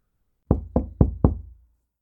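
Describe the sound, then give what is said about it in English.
Four quick, evenly spaced knocks on a wooden back door, firm, each with a short dull thud and brief decay, then silence. No voices. “I know you're in there. Can you hear me? I'm at your back door. Can you answer, please?”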